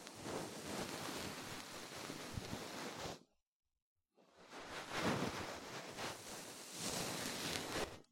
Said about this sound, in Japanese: それじゃ、最後は梵天でふわふわしてやろう。 ざわざわ。